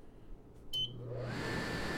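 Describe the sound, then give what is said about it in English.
A short electronic beep, then a microwave oven's fan whirs to life, its broad steady rushing hum rising and settling into a continuous drone. “I'm now at mic modeling, and I'm going to turn on the microwave fan here, so we'll have something besides my voice to compare the sounds of these mics with.”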